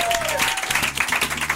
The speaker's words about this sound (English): And finally, a big round of applause to you, the Gene Divas, because we love you so much.